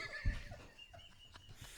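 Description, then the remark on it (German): A person imitates a jungle bird with a faint, warbling, high-pitched call lasting under two seconds, preceded by a brief low thump. “Oh, ich dachte, das ist so ein Vogel, Alter.”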